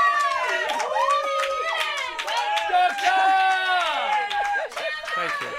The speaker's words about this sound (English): Control room round of applause.